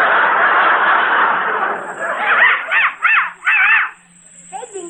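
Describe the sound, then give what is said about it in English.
A small real dog, just uncovered from a gift box, yaps four times in quick succession, sharp, following a burst of rushing noise, with a few faint yelps near the end. “It's still barking. Children, please, this is a real dog.”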